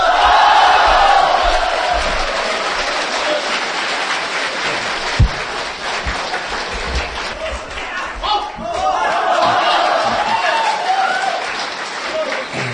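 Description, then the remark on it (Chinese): Sustained applause from a large audience at a xiangsheng (crosstalk) performance of "Meng Zhong Hun" by He Yunwei and Yu Qian, a dense wash of clapping with a few louder swells, heard clearly and continuously for the whole stretch. “谢谢朋友们的掌声。”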